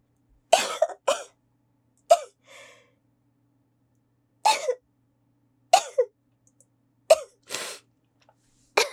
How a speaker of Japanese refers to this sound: 失礼しました。くしゃみが出ちゃった。やだ、恥ずかしい。